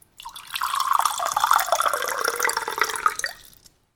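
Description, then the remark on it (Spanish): Water pours steadily into a small glass for about three seconds, a glass of water offered as a drink, the gurgling pitch rising slightly as it fills, clear with no one talking. “Doctor, ¿y no se le ofrece algo de tomar? ¿Un vasito de agua?”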